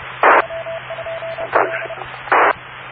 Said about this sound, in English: It's going up, then it goes even down, then it goes up, then it goes down, then it goes up and down, and it does that 1,000 times every second. And that's what's creating that 1,000 cycle hum on the AM receiver on the other end.